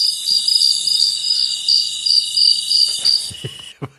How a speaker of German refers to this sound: Bahamas, was ist das im Hintergrund? Sehr laute Grillen. Die sind auch gerade in den Bahamas.